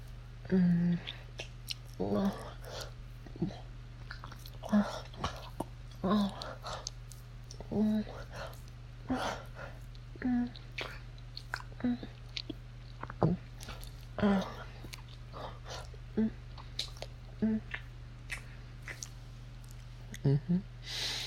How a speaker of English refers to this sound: You're getting so wet. Do you like hearing me slurp my own cum out of you?